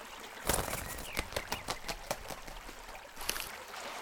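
Water splashes and sloshes in a string of irregular bursts as a T-shirt is dunked and scrubbed in a river, over a steady background of flowing water, with no voices.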